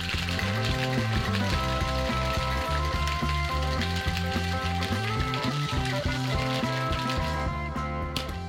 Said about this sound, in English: Just like that. Nice shake. Smooth shake. Also, good control of the shaker.